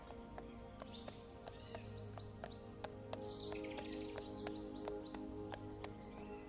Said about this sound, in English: After a while, you hear the sound of a horse and trap coming along the lane.